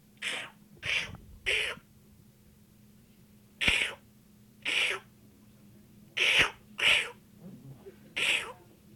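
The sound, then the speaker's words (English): A group of voices imitates seal calls together: eight short, rough, barking bursts in an uneven rhythm, three quick ones, a pause, then pairs, each loud and breathy over a faint low hum. “Seals make noises. Well, do it together.”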